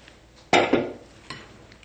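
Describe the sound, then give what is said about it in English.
Stirring a mixture quickly in a bowl before pouring it over a crust: a loud scrape of a utensil against the bowl that quickly fades, then a second, softer stroke a moment later. No one speaks. “And pour the mixture in to the bowl, and then we're gonna mix it real quick and pour it over our crust and put some more crust at the top.”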